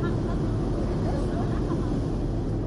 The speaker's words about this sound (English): From a boat meandering by construction sites on the new canal Sunday, giant waterspouts are seen slowly raising the level of the waterway. The boat is provided by the Suez Canal Authority to promote the project.